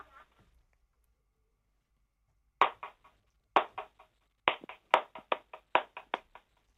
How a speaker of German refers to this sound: kannst du es nochmal klatschen?